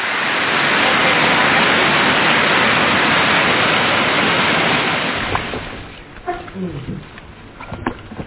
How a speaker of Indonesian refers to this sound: Meski ketika kami tiba, disambut hujan.